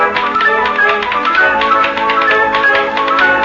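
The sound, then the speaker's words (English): Quick, rhythmic tapping on an ashtray, a steady run of bright, ringing clicks with a slightly metallic, pitched tone, played alone without any voices. “wait a minute, you're cheating. You're playing on the ashtray.”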